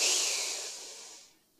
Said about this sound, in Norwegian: Ja, vi prøver en gang til. Pust godt inn med nesa.